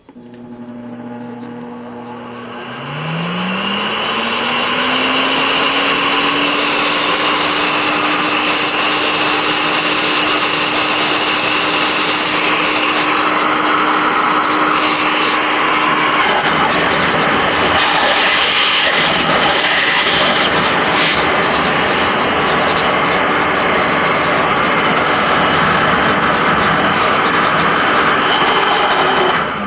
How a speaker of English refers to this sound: Okay, so that is the Sirena water filtration vacuum.